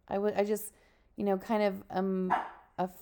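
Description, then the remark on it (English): A puppy barks at his own reflection in a string of high, yappy barks, grouped in short pairs and bursts with brief pauses between them. “During the football season, this is not a well-known fact, as our puppy barks at his reflection.”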